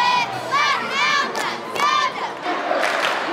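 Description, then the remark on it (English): A crowd of hundreds at a Friday night high school football game in Quincy, Illinois, cheers and yells loudly for the home team, many overlapping voices rising in excited whoops and shouts, with bursts of roaring noise throughout the few seconds. “It's Friday night in Quincy, Illinois. And hundreds have come out for the home team.”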